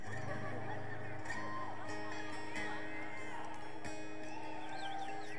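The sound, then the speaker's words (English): A concert audience squawks and cries together in imitation of seagulls for the beginning of a song on the performer's new record. It is a dense, overlapping wash of shrill, wavering calls that keeps going steadily for several seconds. “I'm envisioning for this is a song for my new record, and I want there to be like seagulls and stuff at the beginning, so I have to sort of do it myself here.”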